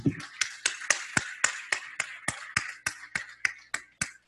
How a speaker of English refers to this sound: So finally, we want to give you an applause for your talk.